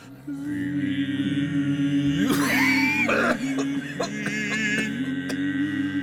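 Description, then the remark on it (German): Several voices sing out of tune together, each singing something different, one holding a steady low note while others waver and slide against it, broken midway by a loud cough from one of the singers; fairly loud. “Das ist überhaupt keine Einheit. Jeder singt was anderes. So ein Durcheinander.”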